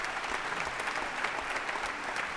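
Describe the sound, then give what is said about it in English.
An audience applauds the Houston Symphony strings steadily, a dense wash of many hands clapping at an even loudness throughout, with no voices standing out. “How about a round of applause for the Houston Symphony strings as well?”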